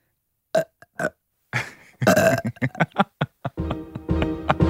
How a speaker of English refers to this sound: I've been drinking a Red Bull, so I need to burp. Hold on.